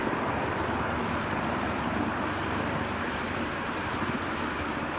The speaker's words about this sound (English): Get over the points first. Now, quite an acceleration for a locomotive.